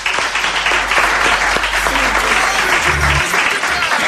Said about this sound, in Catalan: Un aplaudiment per ell per acompanyar-nos.